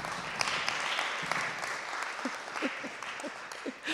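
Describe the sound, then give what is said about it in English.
A steady round of clapping from a sizeable church audience fills the room, dense and continuous for several seconds, with a few scattered voices faintly audible beneath it. “It has been an enormous blessing to folk at our church, and I think we should give him a little round of applause for putting that together.”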